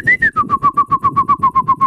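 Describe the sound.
A person imitates birds chirping with a quick, even run of about fifteen short whistled chirps, fairly loud, with no talking.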